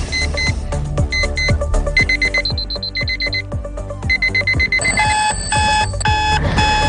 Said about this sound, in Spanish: Despertadores para todos los gustos y colores. Hoy ha vuelto a sonar este despertador para, como digo, miles de alumnos que tenían ante sí el reto que supone este nuevo curso.